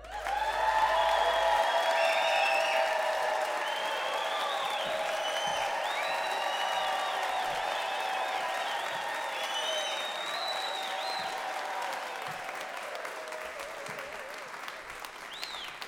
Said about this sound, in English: So we're gonna bring up our first teller with resounding applause